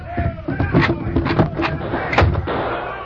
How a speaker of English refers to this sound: And what's that? It's gunfire. Must be a few drunken cowpokes letting off steam. Sounds more serious than that.